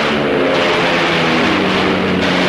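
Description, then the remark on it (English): A propeller plane's engine roars steadily, a loud buzzing drone with layered harmonic hums whose pitch shifts slightly as the aircraft sweeps around while another plane fires at the giant ape Kong. No voices are heard. “The plane sweeps around as another fires at the ape.”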